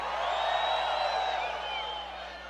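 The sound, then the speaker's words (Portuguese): A large audience in Natal, Brazil, shouts and cheers together in response to the performer's call, in a sustained roar with a few higher whoops rising above it, loud and steady before easing off slightly at the end. “O homem que gosta de mulher de verdade, levanta a mão e dá o um grito aí.”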